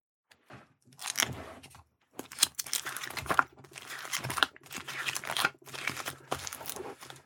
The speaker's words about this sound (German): Ich würde mal sagen, ich schlage jetzt mal das Videobuch auf